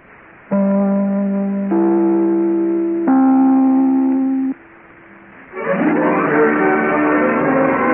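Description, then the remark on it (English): The NBC network chime rung during the radio program The Big Show: three sustained, bell-like tones struck one after another, each ringing on and overlapping the last, before a brief lull and then a busier, fuller sound takes over. “We'll be back in a moment as soon as I ring my chime.”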